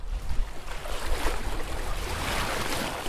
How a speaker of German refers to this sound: Das sind die Wellen in Beirut, der libanesischen Hauptstadt am Mittelmeer.